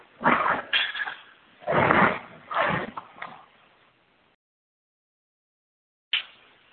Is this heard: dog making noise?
yes